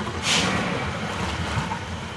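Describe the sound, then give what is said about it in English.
A boat carrying a NOAA damage assessment team moves across the water, with a steady low engine rumble and constant rushing, wind-blown noise, plus a brief splashing hiss near the start. No one speaks. “I'm trailing Takis and his team on a boat with Tom Brosnan, who coordinates the damage assessment for NOAA.”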